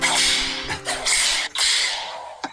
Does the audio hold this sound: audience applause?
no